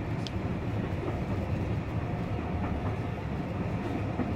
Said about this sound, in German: Spannender war darum fast die Umkoppelung der Lokomotive, die hier stattfand. Sie setzte sich vor den Aussichtswagen und wir hatten für die Rückfahrt einen wunderbaren Blick auf das alte Dampfhaus.